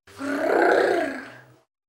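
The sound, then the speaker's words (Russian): A wolf lets out one rough, drawn-out growl lasting about a second and a half, swelling to full strength and then trailing off, fairly loud with no talking. “Волк подбежал к соломенному домику и зарычал.”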